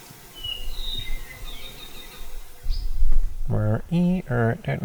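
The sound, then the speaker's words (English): Apapane (Hawaiian honeycreeper) song: a few thin, high whistled notes drift faintly over a soft outdoor background, then a run of louder buzzy warbling calls in quick, choppy bursts toward the end. “The whole thing is all apapane.”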